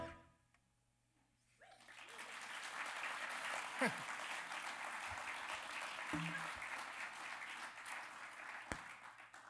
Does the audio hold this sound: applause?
yes